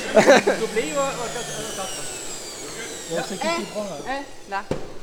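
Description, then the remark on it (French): A steady, whooshing air blower inflates two balloons with air, calibrating both to the same size, with a whining tone that slowly drops in pitch, while people talk over it and a sharp knock lands near the end. “C'est gonflé à l'air et calibré, elle calibre les deux ballons à la même taille.”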